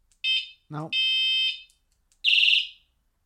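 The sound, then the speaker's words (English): A horn switch sounds shrill, high-pitched electronic whistle tones at 10:30 in the morning in an apartment complex: a short burst, a brief lower sliding tone, a long steady whistle, then a rapidly pulsing warble that fades out. “Oh, horn switch is here. Oh, it's a whistle?”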